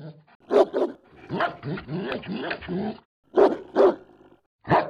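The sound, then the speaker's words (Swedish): A dog barks loudly, two sharp barks, then a drawn-out stretch of rough growling and whining vocalizations, followed by three more separate barks. No one speaks. “Ja, tema. Hundar.”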